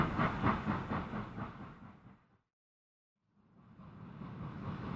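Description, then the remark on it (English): A train leaving the station rattles along with a rhythmic clickety-clack that fades away into a brief silence, before a steady rolling rumble gradually builds back up. No one speaks. “The train is leaving the station.”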